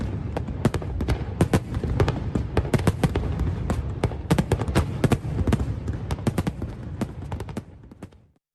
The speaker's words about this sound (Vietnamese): Màn trình diễn pháo hoa kéo dài 15 phút, nhiều người tranh thủ ghi lại những khoảnh khắc đẹp với sự thích thú.